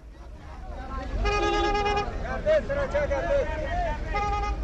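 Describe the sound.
Busy traffic at Kabul's main bus station in Afghanistan, with yellow taxis and white minibuses travelling from the capital to the eastern provinces of Khost, Pakti and Paktika. Steady road noise is broken by two sustained car horn blasts, one near the start and one at the end, with voices chattering in between.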